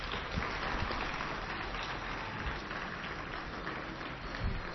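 Sustained applause from an audience at a live radio programme, a dense steady clatter of many hands clapping for several seconds at a fairly even loudness, with no voices standing out.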